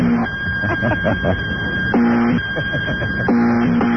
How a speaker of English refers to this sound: There you go. That's what I want. Just a buzzer. Get an attorney. Just the old buzzer.